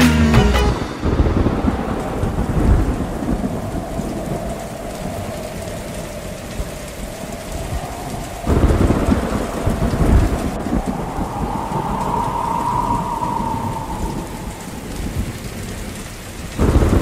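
Steady heavy rain pours down while deep thunder rumbles roll through, with a loud crack and surge around the middle and another swell near the end. No voices.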